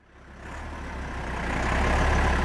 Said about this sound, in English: Tractors are blocking the northbound lane of the Athens-Thessalonica toll road. Blockades have cut off Greece's main highways, border crossings, and major ports.